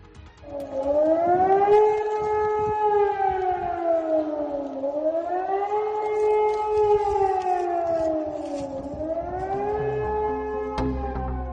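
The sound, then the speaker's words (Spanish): A loud civil defense alarm siren sounds through the streets in Germany during a nationwide drill in the morning, its pitch rising and falling in slow, repeating sweeps about every four seconds, sounding alone without any voices. “Son sirenas, sí, sirenas de alarma, que han recorrido las calles de todo el país.”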